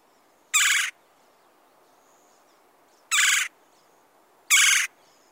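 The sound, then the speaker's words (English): A red-bellied woodpecker gives three loud, rolling churring calls, each under half a second, spaced irregularly against a quiet background with no talking. “…'s got the sound of the red belly.”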